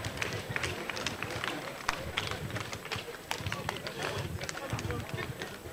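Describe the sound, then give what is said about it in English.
A crowd claps steadily and continuously for His Excellency after he launches an academy with a donation, a dense patter of many hands at a fairly even level, with some indistinct voices mixed in underneath. “Please, a round of applause for him.”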